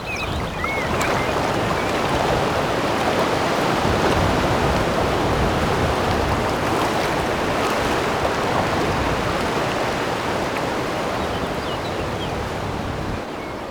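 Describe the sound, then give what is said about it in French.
Strong, gusty stormy wind roars steadily across the open water of the Étang de Barandon pond, a dense continuous rushing that fills the whole scene, with faint higher whistles and no voices. “Étang de Barandon, sans le vent tempétueux, un miroir lacustre paisible, cerclé de verdure.”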